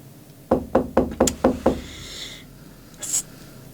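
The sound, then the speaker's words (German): A rapid series of six firm knocks on a door, evenly spaced, followed by a faint rustle and one short, bright scrape or click near the end. “Was ist denn los? Die Tür ist doch offen. Was soll denn das?”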